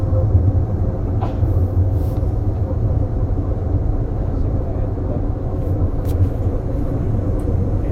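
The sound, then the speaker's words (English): A steady, heavy rumble from inside a moving train approaching Whitehorn Station, with deep low-end roar and rattling texture holding constant throughout, and a few faint clicks and squeaks above it. “the next stop is Whitehorn Station.”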